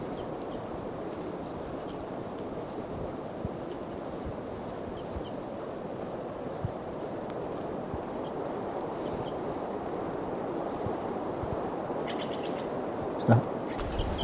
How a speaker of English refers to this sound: Wildbird's calling louder as the wind blows more and the rain continues to fall.